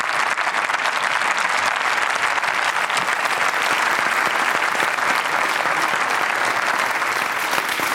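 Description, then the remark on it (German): Sustained applause from a large parliamentary assembly, members of the speaker's parliamentary group and colleagues of other groups, some standing, fills the whole eight seconds, dense and steady clapping at a loud, even level with no pauses and no speech over it. “Haben Sie in Ihrer Fraktion großen Applaus bekommen?”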